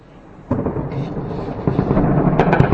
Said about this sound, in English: You can hear the sounds of gunfire in the capital city of Tripoli.